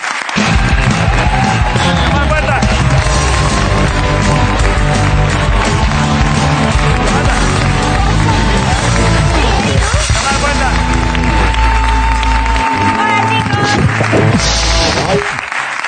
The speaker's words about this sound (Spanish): Estamos encantados, así que pido un aplauso hoy en La Resistencia para Guiomar Puerta.